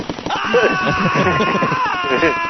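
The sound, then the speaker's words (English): A person lets out a drawn-out, high-pitched imitation of a scream that holds for about two seconds, with other voices talking underneath it. “They don't scream like that, though.”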